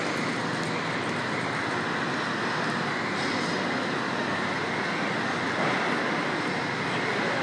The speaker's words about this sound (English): This is the sound of Dublin Euston Railway Station at work. I'm walking along the platform, off the train, towards the city.